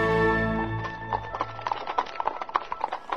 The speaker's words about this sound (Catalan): 4 dies més tard, cap a les 11 de la nit, un cotxe de cavalls va sortir del castell amb el fèretre de Sir Simon de Canterville per enterrar-lo al jardí dels morts on ell volia estar.